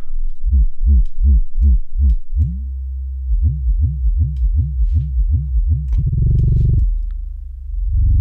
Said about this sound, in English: We've got some pulsating sub-bass using the filter.